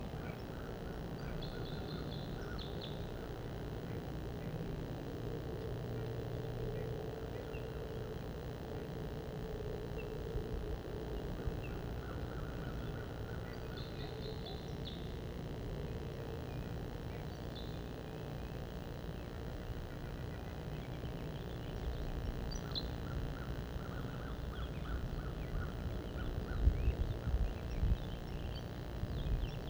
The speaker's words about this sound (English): Purple finch and crossbill song. Wild birds.